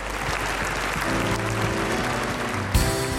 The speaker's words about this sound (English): In Jesus' name we pray. And everyone says, would you thank him again with a clap offering? Thank you, Lord.